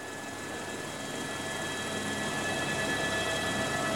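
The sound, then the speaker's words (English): A steady, droning helicopter engine hums continuously in flight over the mountains of Fiordland, New Zealand, flying right at a mountain before shooting up on the uplift, a broad roar with a faint whine that grows slightly louder toward the end, with no voices. “Weather pilots flying right into the mountain. You look as if you're going to hit it any second, and then you just shoot straight up and get carried in the uplift of the current.”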